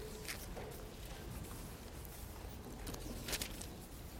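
Soft papery rustling with a few brief swishing bursts as pages turn while listeners look up Proverbs chapter 28, fairly quiet against a low, steady background murmur.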